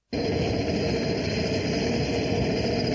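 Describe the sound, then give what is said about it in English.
The engine of an air sea rescue helicopter, arrived at the scene to rescue a man who has fallen down a cliff onto a small beach, starts abruptly and holds a loud, steady, droning roar with a high whine running through it, unchanging throughout, with no voices. “An air sea rescue helicopter has arrived at the scene, and one of the crew has climbed down a ladder to the beach.”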